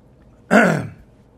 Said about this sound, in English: Excuse me. Tried to breathe and cough at the same time.